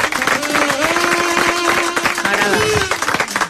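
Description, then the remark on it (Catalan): A small group claps steadily and loudly for a few seconds, with voices whooping and calling out over the applause. “Un aplaudiment al cul.”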